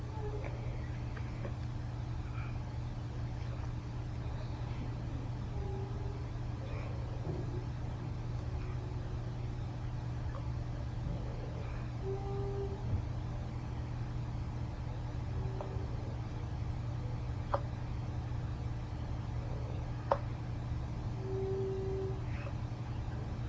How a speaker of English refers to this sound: That noise. You want to look out the window? See those garbage guys? I want to see what they're doing. There goes the big truck. There they go.